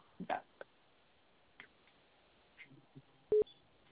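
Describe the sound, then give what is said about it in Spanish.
A single short, loud telephone keypad tone as the pound key is pressed follows a few faint clicks and taps. Nobody speaks. “Apóyame a presionar tres veces la tecla de gato, por favor.”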